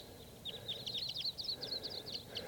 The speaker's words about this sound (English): A huge flock of crossbills is around here somewhere. Sounds like type 2.